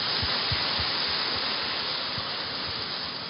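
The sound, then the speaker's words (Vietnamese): Steady, dense applause from a crowd of Buddhist followers approving a proposal, a continuous hiss-like wash of many hands clapping together, with a few heavier low thumps scattered through it. No one speaks over it. “Cho một tràng pháo tay thông qua.”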